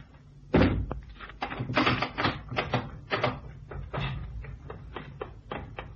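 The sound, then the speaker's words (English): A heavy wooden trap door in a cabin thuds loudly open, followed by a run of knocking, creaking clunks over the next few seconds, with no one speaking. “But the trap door is open.”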